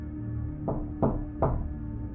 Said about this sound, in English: The loud knocking at my front door made me jump and sent chills through my body.